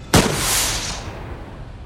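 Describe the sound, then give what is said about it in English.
A flare gun is fired upward once with a sharp, loud bang, followed by a bright hissing whoosh that trails off over about a second as a green flare arcs into the sky, with no voices. “Allard pulls out the flare gun and points it upward.”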